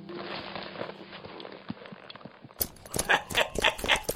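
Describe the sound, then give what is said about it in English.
Horses ride off with hooves clip-clopping in a quick, uneven rhythm. The hoofbeats are muffled at first, then turn louder and sharper toward the end. “Get on your horses.”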